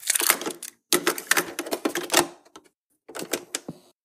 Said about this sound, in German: Ich mach mal die Kassette rein, okay?